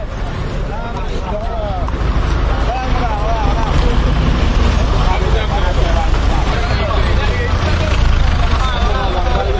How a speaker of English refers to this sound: In a roundabout, several buses have stopped to let people on and off.